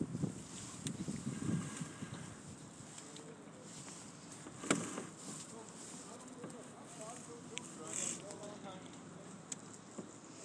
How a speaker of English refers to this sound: It's so weird feeling being out in the water, like how, as I said, it was quiet, but yet you can hear things, and that's really weird. Mm-hmm. It's all the cloths and the ropes. And... That's us on a wee sail. Boat.